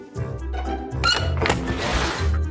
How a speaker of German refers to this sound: Und damit Tür auf.